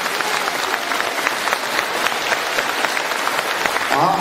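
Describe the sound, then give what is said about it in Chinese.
An audience seated in the middle of a talk hall applauds to thank believers and Malaysian friends seated at the sides, a dense, even patter of many hands clapping at full strength for about four seconds, with a brief voice-like tone rising near the end. “那对他们这么一起来听台长这个法门，我觉得我们坐在当中人鼓鼓掌，要谢谢他们，他们让给你们位置。”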